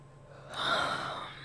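A single drawn-out yawn, a breathy, airy inhale swelling up and slowly trailing off, fairly quiet, with no talking.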